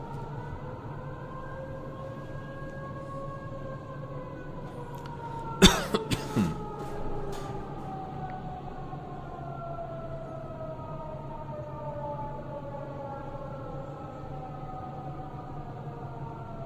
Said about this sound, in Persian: امشب یه اتفاق خیلی عجیب هم افتاد، صدای آژیر وضعیت اضطراری توی صادقیه به صدا در اومد. اگه کسی از صادقیه هست برای ما پیام بده یا هنوز صدا آژیر میاد یا نه.